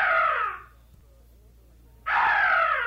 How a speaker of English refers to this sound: Plague that bird. I should think your master would have had it killed. Oh, no, sir. There have always been vultures here.